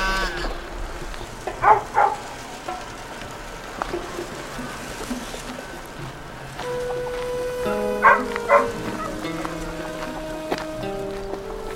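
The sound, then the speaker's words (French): A dog, Hop-Hop, barks a few times in two short clusters, a pair of barks early and another pair later, over a steady rumble of outdoor ambience with no one talking. “Chien.”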